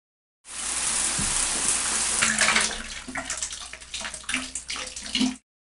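Water pours steadily from a tap into a bathtub or shower, a broad continuous hiss with splashing and gurgling that shifts slightly as it fills, with no talking.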